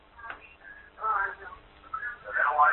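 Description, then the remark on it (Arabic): A television plays in a caller's background during a live phone-in broadcast, its voices and tones muffled and thin as if heard over a telephone line, rising and falling in indistinct bursts. “طيب نوطي التلفزيون من فضلك.”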